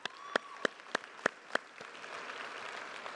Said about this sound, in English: And so if we could real quick, not all the teams here, but if you're from the team, would you just stand up and let us recognize you guys one more time? I know young adults, so let's give you guys a round of applause.